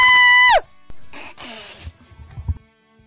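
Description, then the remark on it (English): A person lets out a loud, high-pitched playful scream lasting about half a second that drops off sharply, followed by breathy, hissing vocal noises and quieter murmurs. “So if we were to imagine him screaming, what would it sound like?”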